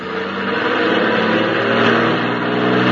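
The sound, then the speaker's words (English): A heavy truck engine rumbles loudly and steadily, its revving drone holding strong for the whole stretch as the truck drives off, trying to squeeze past on the road shoulder, with no voices over it. “Yeah, looks like you might squeeze by on the shoulder.”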